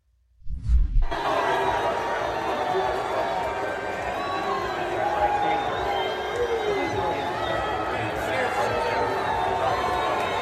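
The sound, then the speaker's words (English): A large crowd at an Iowa football game roars continuously after a brief thump at the start, a dense wash of many voices blending loud cheering and booing aimed at a man who came down into the stands, steady and sustained with no clear individual words. “He also went to the Iowa football game, and there was a bit of online controversy that broke out over whether he was being booed or whether he was being cheered.”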